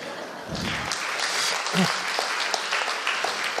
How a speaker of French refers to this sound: Donc, je vous remercie de l'accepter à 100%, à l'unanimité. D'habitude, on applaudit à ce moment-là.